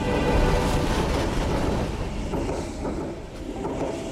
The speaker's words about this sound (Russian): Кстати, он еще слышал от коллег, что когда-то во время испытаний в тоннеле произошел взрыв в поезде, где было около полдюжины заключенных. Инцидент, ну, как полагается, засекретили, но поезд с застрявшими душами заключенных ходит здесь до сих пор.